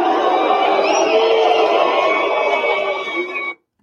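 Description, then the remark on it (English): A large crowd boos loudly and continuously for about three and a half seconds, a dense roar of many voices, before it cuts off abruptly. “That was the crowd booing.”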